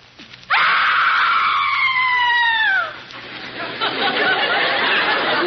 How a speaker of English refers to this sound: what is the secret in being able to burst forth with such a blood-curdling scream?